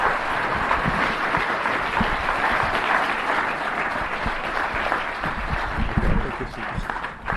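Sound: audience applause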